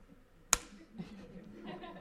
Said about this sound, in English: Let the radio audience know I just slapped my forehead.